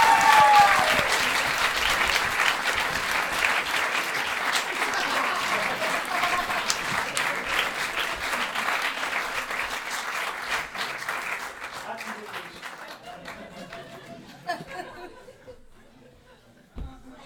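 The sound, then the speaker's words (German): An audience applauds a question steadily with dense, crackling clapping that slowly thins and fades out over about fifteen seconds, with a few scattered last claps at the end. “Also ich bringe dir das mal einen Applaus für die Frage.”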